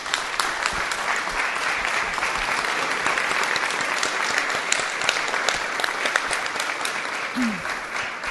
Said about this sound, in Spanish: Así que realmente el aplauso y el esfuerzo es todo para ellos, que el esfuerzo es enorme.